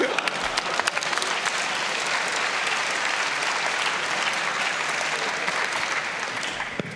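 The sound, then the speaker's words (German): An audience claps steadily for about seven seconds at the end of a talk, a dense, even wash of hand claps with a few sharper individual claps standing out near the start, fading slightly at the end. “Eine Runde Applaus.”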